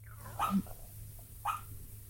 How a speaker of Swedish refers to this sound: Skäller han i sömnen? Ja, han ligger och sover, det gör han jättemycket och drömmer. Och så bara, så låter han. Nej, nu vaknar han.